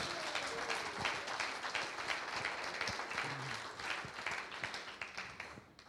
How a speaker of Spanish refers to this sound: ¿Cuántos alaban a Dios? Den un aplauso a Jesús.